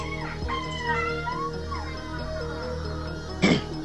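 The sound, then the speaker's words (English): A door in a house creaks slowly, its squeaky hinge groaning in wavering, gliding tones for several seconds, then a short sharp knock or thud near the end. No one speaks. “And again, that creaking door sound.”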